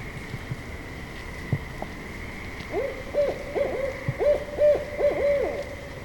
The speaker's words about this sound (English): The barred owl, let me spell that, B-A-R-R-E-D, is named for the barring or streaking across much of the bird's undersides. They're often very loud when hooting, as heard here.